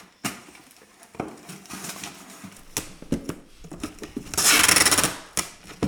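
Cardboard thumps and rustles with scattered clicks as a first moving box is packed for a house move, then a loud, harsh screech of packing tape ripping off the roll for about a second, followed by more box handling.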